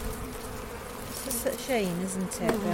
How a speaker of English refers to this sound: So this colony has been depleted to the point where it's just not a viable... It's not a colony anymore. No. It doesn't even look like there's a queen. There's just a handful of bees.